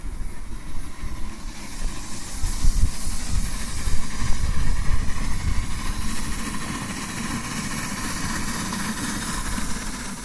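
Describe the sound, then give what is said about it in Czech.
A small model steam locomotive, built by an amateur constructor, hisses steadily on a garden railway at Skalsko, Czech Republic, with a continuous breathy rush of steam over a low, fluttering mechanical rumble that swells slightly midway, then settles. No voices. “No, a tohle to je čistě koníček, ale říkám celoživotní a no, jsem takový čarodějův učeň a amatérský konstruktér parních lokomotiv.”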